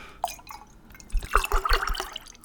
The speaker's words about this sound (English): And then, finally, the most important part, you take the Norwegian milk and you pour that into the glass as well.